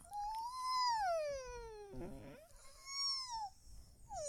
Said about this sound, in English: Ninja yawn.